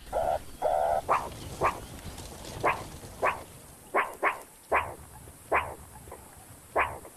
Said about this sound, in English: Start to bark now. As the jackal gets closer, the meerkats identify the ground predator and prepare for an emergency.